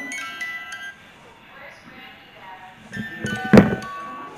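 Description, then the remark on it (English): A toy with lights plays a tinny electronic jingle in short bursts, with faint voices in the background and a sharp thump near the end as the tune picks up again. “Yeah, do you like the lights and the music?”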